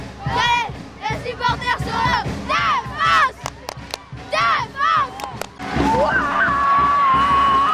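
A crowd of Calais Basket supporters roars and cheers after Calais beat Berck 89-83 in a National 2 basketball match on Saturday night at the salle Calypso, with overlapping shouts and whoops rising in loud bursts, then a sustained whistle-like tone over the continuing crowd noise.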